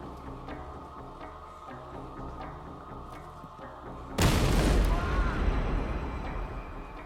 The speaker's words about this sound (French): L'explosion le blessa gravement.